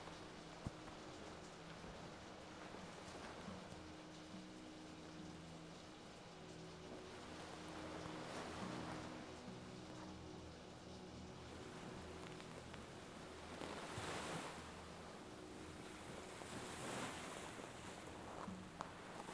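Wind-whipped ocean waves, swollen after a night of rain until the sea covers the hill, surge in a steady, rushing wash that keeps swelling louder every few seconds, a continuous roar of water with no voices over it.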